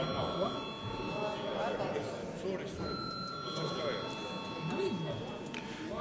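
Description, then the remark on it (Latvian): A parliament chamber bell rings steadily throughout, called for a repeat vote, its high, sustained electric tone holding without a break over a low murmur of voices in the background. “Tātad lūdzu vēlreiz zvanu.”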